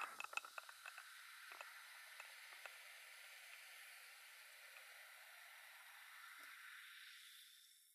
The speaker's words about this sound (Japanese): こちらのお耳にもコップを置いてシュワシュワ。炭酸の音ってどうして癒されるんでしょうね。ちょっぴり不思議です。